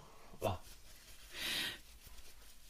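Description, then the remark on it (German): A person blows their nose: a short snorting burst, then a longer, breathy, hissing blow about a second later. It's fairly quiet, with no talking. “Also da, ich muss mir kurz die Nase putzen, das tut mir leid.”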